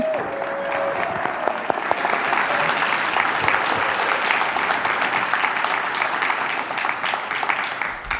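A crowd bursts into sustained applause to welcome a speaker, dense overlapping claps holding at a steady loud level for several seconds with no one speaking over it.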